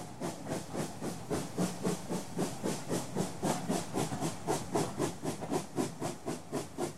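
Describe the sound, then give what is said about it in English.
A steam locomotive chuffs steadily along, sharp hissing bursts of steam repeating about three times a second in an even, driving rhythm, with no voices over it. “Soon Jane, the Royal Train, was ready again. Whistle, hoot, toot, toot, along the track. Clickety-clack, clickety-clack, clickety-clack.”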